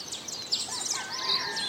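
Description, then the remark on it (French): Several birds chirp and whistle in quick overlapping bursts in Tahitian nature, high bright calls layered over a soft steady outdoor hiss, with no voices present. “On entend en ce moment même la nature tahitienne.”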